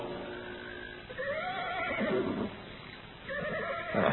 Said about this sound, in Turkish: At da kişneyip tepinmeye başladı. Allah hayra yorsun. Ne oluyor yahu, çıldırdı mı bu hayvanlar?